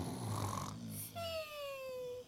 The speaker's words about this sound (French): Oh! C'est Biscuit qui dort déjà! Ah, ok! Ah, et ça, c'est quoi? C'est Dragon qui s'est endormi. Sa mission l'a trop fatigué. Oh, ils sont drôles! Biscuit ronfle comme ça.